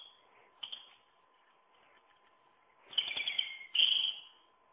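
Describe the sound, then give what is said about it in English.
A European robin sings in high, thin, warbling phrases, with a brief note early on and then two longer bursts near the end, clear against a quiet background with a faint steady hum. “let's find the robin. Is that the distress signal? Oh, there we are, there's the song.”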